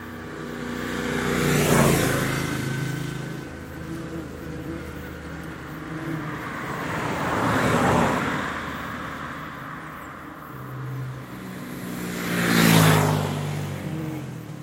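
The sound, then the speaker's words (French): Road traffic heard from a distance, with three separate vehicle passes swelling and fading around two, eight and thirteen seconds, engines whining and revving like motorcycles over a steady low rumble. “Autant les motos, même lorsqu'on est à 3000 mètres d'altitude, on entend les bruits de motos qui proviennent de la vallée.”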